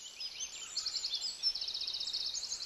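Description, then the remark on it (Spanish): A small bird sings a bright, high-pitched song of rapid chirps and trills that run continuously, heard softly with no voices. “Donde nosotros estamos, hay por tiempos que suena un pajarito con un canto muy bonito.”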